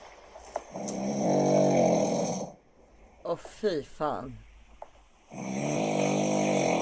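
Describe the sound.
Two long, loud, rasping snores from a sleeping man, each lasting a couple of seconds, with a brief exclamation from someone nearby in the pause between them.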